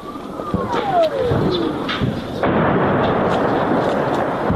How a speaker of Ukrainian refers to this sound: А оце вибухи були? Це їхні гради працювали.